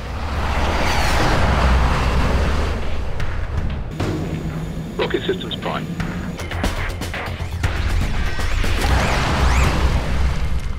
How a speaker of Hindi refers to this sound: ये आवाज़ है एक ऐसी कार की जिस पर बरतानवी टीम काम कर रही है जो 1000 मील फी घंटा की रफ्तार से चल सकेगी। इस गाड़ी को ब्लड हॉर्न का नाम दिया गया है। इस गाड़ी की टेस्ट ड्राइव 2016 में साउथ अफ्रीका में ली जाएगी।